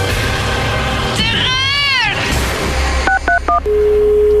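A warbling electronic tone rises and falls, then three quick touch-tone keypad beeps sound, followed by a steady held tone, all fairly loud over a constant background bed.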